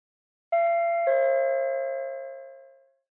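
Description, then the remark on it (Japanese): A two-tone intercom doorbell chime as someone presses the intercom button at a door: a bright ding followed by a lower dong, ringing out clearly and fading smoothly over about two seconds with no voices. “インターホンを押すから静かにして。”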